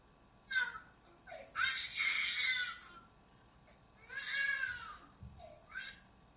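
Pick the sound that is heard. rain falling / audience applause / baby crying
baby crying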